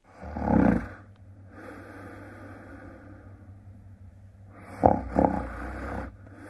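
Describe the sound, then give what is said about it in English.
A person snoring loudly and raspily, with deep rumbling inhales and a low steady drone between breaths, with no talking. “Someone snoring.”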